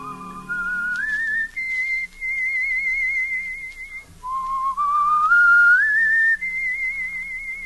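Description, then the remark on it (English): Someone whistles a simple tune alone, clear, in two rising phrases of long held notes with a brief break in the middle. “I can still hear him whistling that tune.”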